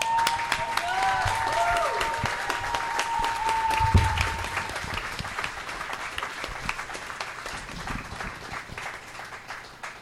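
An audience bursts into sustained applause, a dense crackle of many hands clapping that swells early, then gradually thins and fades, with a few whistles and cheers mixed in at the start.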